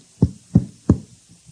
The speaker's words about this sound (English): You have the housekeepers knocking at your door?